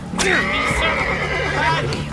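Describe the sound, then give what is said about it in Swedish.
A horse whinnies loudly as a man beats it to drive it down into the water, one long wavering cry lasting over a second, with a low steady hum and faint background noise underneath. “Han slår hästen!”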